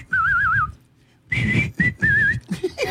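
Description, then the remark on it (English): A person whistles a short melody, starting with a wavering trill, pausing, then continuing in several bright phrases with soft background noise underneath. “Well, I cannot play the piano on that song here. Okay. But I can whistle it.”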